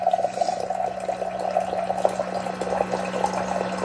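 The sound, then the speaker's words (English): A small electric pump in a water dispenser hums steadily while water streams and splashes into a container, a continuous pouring sound with no talking. “It actually sucked the water all the way through.”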